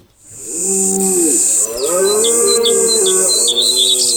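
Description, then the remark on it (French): A short, loud radio jingle of sustained, gliding musical tones with bright bird chirps twittering over the top, running continuously for a few seconds with no voices. “Je l'avais jamais entendu ce petit jingle, il est pas mal.”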